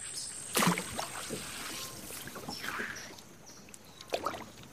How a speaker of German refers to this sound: Leises Plätschern, Gluckern, hin und wieder ein Vogelschrei. Ansonsten hüllt sich das Okavango-Delta in träge Stille.